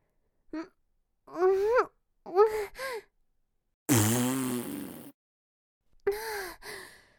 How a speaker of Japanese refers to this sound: 出ちゃった。とんでもないガスの量のおなら。お部屋の中の空気が全部私のおならで満たされちゃいそうなガスの量。こんなおなら久しぶり。